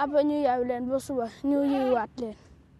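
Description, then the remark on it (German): Goats herded out in the dry savanna bleat several times in quick succession, fairly loud, each call wavering and nasal, with short pauses between them and no talking. “Darum muss ich jetzt immer da draußen in der Savanne die Ziegen hüten und sie am Abend wieder heimbringen.”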